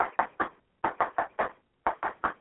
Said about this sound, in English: Behold, I stand at the door and knock. Can you hear him?